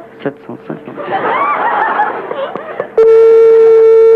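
Muffled laughter and chatter fill the first few seconds, then a loud, steady electronic phone ring tone, the first ring of a call being placed to a listener, cuts in abruptly and holds unbroken until the end.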